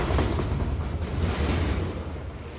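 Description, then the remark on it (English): A train roars down the tracks, its steel wheels and carriages making a loud, continuous low rumble with a broad rushing noise layered on top, without pause. “And then he's crawling forward on his knees, screaming, his voice ripped away from him on the wind as the train roars down the tracks, the steel wheels making their terrible, cracking rhythm.”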